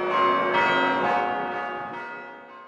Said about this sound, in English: These days, music students and faculty at Syracuse are in charge of the chimes and a secretive society known as the Chime Masters. The bells ring 3 times a day, at 8 a.m., 11:45 a.m., and 6 p.m., and then again on special occasions.